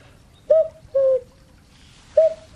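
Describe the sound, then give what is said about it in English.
In a voice message sent to RTÉ Radio, a person imitates a cuckoo with hollow, hooting notes: two in quick succession, then a third after a short pause. The notes are clear, with faint background noise and no talking. “I'm going to call a cuckoo.”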